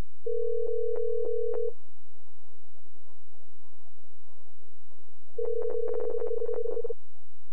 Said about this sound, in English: I just gave Herbie a phone call through Gizmo